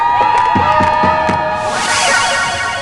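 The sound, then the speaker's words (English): A bright video game level-up jingle: sustained tones with a few punchy beats, then a burst of synthesized crowd cheering that swells and fades. It's loud, with no talking. “That is a cool level up sound.”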